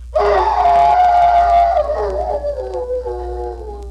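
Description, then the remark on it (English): A man's voice imitates a hound's howl for a comedy play of The Hound of the Baskervilles on the Jell-O program, one long, loud, wavering cry that starts strong and slowly slides downward as it fades over a few seconds, with a low hum underneath. “I think you ought to try that howl just once more.”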